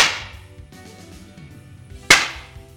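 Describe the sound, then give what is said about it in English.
Two sharp, loud whip cracks, one right at the start and another about two seconds later, each snapping bright before fading over a low, muffled background. “You invented this whip. Shouldn't you know what it's fully capable of?”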